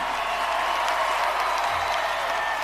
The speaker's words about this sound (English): if you believe in this message and my message of peace, love, and positivity and equality for all, then I demand that you rise to your feet and applaud, not only for yourselves, but for the foundation we are laying for our children.